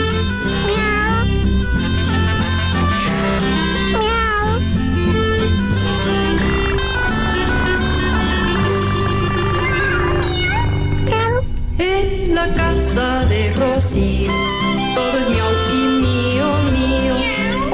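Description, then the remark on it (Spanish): A lively, full-band Spanish-language song about cats with repeated meowing woven through the music, the cat-like cries rising and falling over the steady instrumental backing at a loud level. “Bueno, querido público, nos vamos, nos despedimos con otra canción de gatos.”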